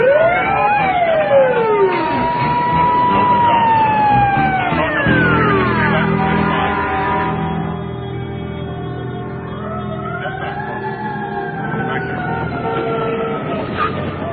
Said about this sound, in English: Hey, boss, we putting sirens on?